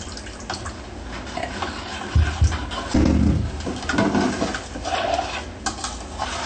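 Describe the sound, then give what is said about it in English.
Purified water pours steadily into a mixture containing Maggi and apple juice, a continuous splashing trickle lasting several seconds with a few louder gurgling surges along the way, and nobody speaking. “Then you add a little purified water.”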